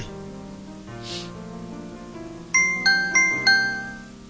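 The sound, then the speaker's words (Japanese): A bright electronic ding-dong chime rings twice in a row, four clear bell-like tones in quick succession, each ringing out briefly over a soft, steady musical hum. “はい、ピンポンピンポンなりました。”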